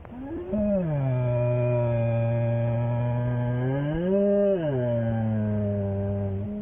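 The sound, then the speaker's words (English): A black bear lets out one long, low, drawn-out moan of fear, loud, swelling upward in pitch near the start and again midway before settling back down. “This haunting sound is being made by a black bear.”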